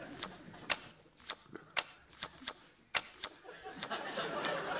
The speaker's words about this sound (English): I'll be dealer, so we'll just shuffle the cards. There we are.